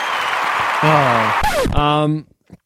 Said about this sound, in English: A round of applause.